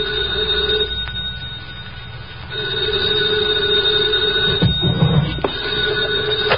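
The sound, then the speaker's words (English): An old-style office telephone bell rings at 2:00 in the morning in two long bursts separated by a short pause, loud, with a few clicks near the end and no voices. “2:00 in the morning, the phone rang.”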